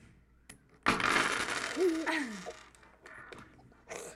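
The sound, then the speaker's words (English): A toy bridge is knocked down: a sudden loud clatter of hard pieces tumbling, with ringing, coin-like rattles that fade over a second or so, then a few scattered clicks. “Yeah, I knocked it down.”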